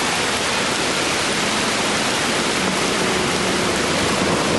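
Heavy rain pours down in a steady, dense hiss that fills the whole clip without pause, loud and even from start to finish, with no voices.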